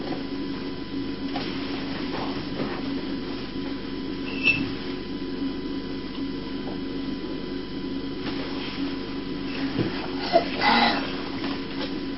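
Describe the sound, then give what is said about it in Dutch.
A child plays with a toy train indoors; its small motor whirs and hums steadily for the whole stretch, with a few faint clicks and rattles along the way and no voices. “Ga je met de trein spelen?”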